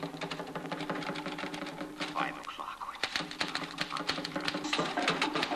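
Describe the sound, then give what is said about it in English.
Rapid, uneven clacking of typewriter keys continues throughout, sharp mechanical strikes in quick bursts, with a voice briefly speaking over the typing. “In this typewriter.”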